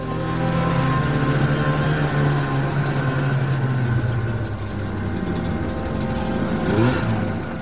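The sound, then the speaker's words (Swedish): A snowmobile engine drones loudly, its pitch sliding down midway before revving back up near the end, with no voices present; two local fishermen riding snowmobiles up to a lake in the Anaris mountains (Anarisfjällen) to go ice fishing, on the morning of Saturday 25 February. “Samma morgon, lördagen den 25 februari, har två lokala fiskare tagit sig med skoter upp till en sjö i Anarisfjällen för att pimpla.”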